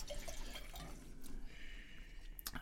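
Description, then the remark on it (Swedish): Petit Verdot wine trickles and splashes into a glass, a soft, steady gurgling pour that stays fairly quiet, with a couple of brief clicks toward the end and no voices. “Nej, men där jag, du hällde till mig.”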